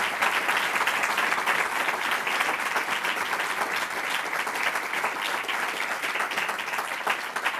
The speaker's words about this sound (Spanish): Por favor, un aplauso para don Santiago.